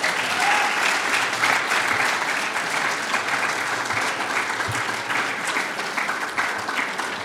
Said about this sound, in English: Well, conference, I'm going to bring this discussion to a close. Please give us our panel a round of applause.